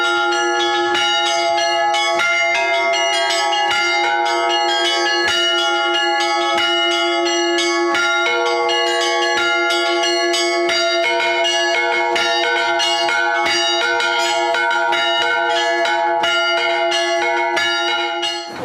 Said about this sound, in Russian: Радостный или будничный. Каждый раз звонарь по-разному может звонить в один и тот же колокол. Хотя они не настраиваются как рояль, но остаются полноценными музыкальными инструментами, именно благодаря которым рождается колокольный звон.